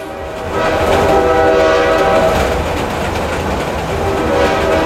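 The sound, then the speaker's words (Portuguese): A steam train rumbles along while its whistle sounds in a long, steady blast over the noise of the wheels. Loud and close, with no voices. “Agora sim, café com pão, agora sim, voa fumaça, corre cerca, seu foguista bota fogo na fornalha, que eu preciso muita força, trem de ferro, trem de ferro, trem de ferro”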